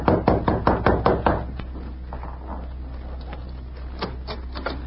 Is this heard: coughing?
no